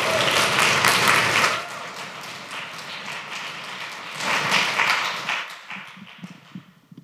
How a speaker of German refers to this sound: Und liebes Publikum, wir bräuchten noch einen letzten Auftrittsapplaus für die letzte Künstlerin des heutigen Abends. Trampelt, stampft, klatscht und gebt alles, was geht,